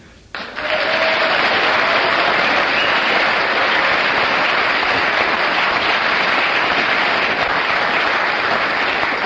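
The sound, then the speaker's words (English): A crowd bursts into loud, sustained applause after a brief quiet start, the dense clapping holding at a steady level for about nine seconds without letting up. “Well, you get 9 for your applause”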